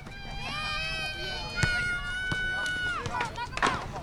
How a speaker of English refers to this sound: On a chilly Saturday morning, about 20 kids ranging from toddlers to teens run, climb, and squeal at a playground next to Castle Mon High, while 3 security guards in bright yellow shirts look on.